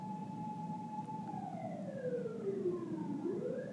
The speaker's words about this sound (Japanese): そ ん なパトカーが鳴っとる。 くそ、なんでパトカーない。 ほら聞こえるかなみんな。近い。